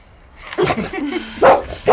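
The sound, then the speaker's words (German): A dog gives a drawn-out, whiny yelp, then two sharp, loud barks in quick succession, with no one talking. “Was ist denn mit dem Hund los?”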